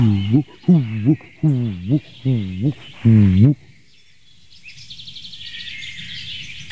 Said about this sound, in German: Eine weitere Taubenart hier auf dem Platz.